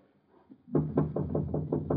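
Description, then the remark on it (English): Firm, rapid knocking on the wooden door of a flat, about seven loud raps in a steady rhythm after a brief quiet moment. No voices are heard. “All right, knock.”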